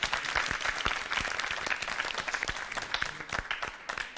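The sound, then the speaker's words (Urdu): A quiz show crowd breaks into loud, sustained applause for the winning team, Team C, dense overlapping claps with sharp individual hits standing out, steady throughout with no voices over it. “جی ہاں ناظرین, تینوں ٹیموں کا رزلٹ آپ کے علم میں آ چکا ہے, آج کی ونر ٹیم ہے ٹیم سی, ان کی حوصلہ افزائی ہو جائے زوردار تالیوں کے ذریعے.”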